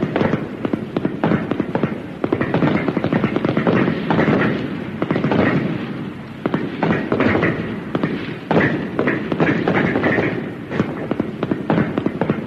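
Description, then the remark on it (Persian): A rapid, continuous volley of rifle shots cracks and thuds for several seconds, the reports overlapping into a dense, loud barrage, fired during shooting practice on the command to fire. “آفرین، تمرین تیراندازی دیگه کافیه.”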